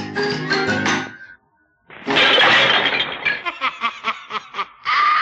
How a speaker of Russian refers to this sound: Вы слышите? Это она из рогатки разбила стекло.